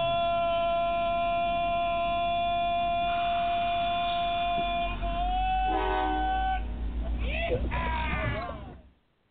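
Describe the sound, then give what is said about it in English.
A train sound effect: a long, loud, chord-like horn blast held steady over a low rumbling engine, shifting and wavering near the end before cutting off abruptly. “I want to make sure that everybody gets on board the Trump train.”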